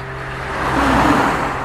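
A car passes by on a road, its engine hum and tyre noise swelling broadly to a peak in the middle before easing off again, with no voices.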